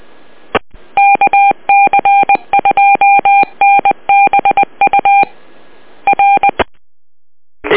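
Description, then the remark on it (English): A radio repeater on the Black River Valley Service Net keys up twice with hissing static, carrying a fast, irregular string of sharp two-tone touch-tone beeps that stop and start. It ends in a short pause, with no talking. “Oh, the repeater just keyed twice.”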